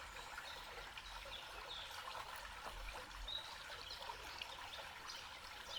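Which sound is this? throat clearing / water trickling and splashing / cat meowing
water trickling and splashing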